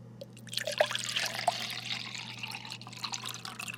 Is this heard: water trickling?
yes